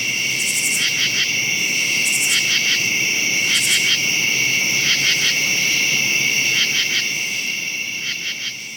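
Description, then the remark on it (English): Crickets chirp steadily at night, a continuous high trilling with regular pulsed bursts repeating every second or so, loud over a soft background hiss, with no voices. “But the katydids have stopped. But the crickets will continue all night long.”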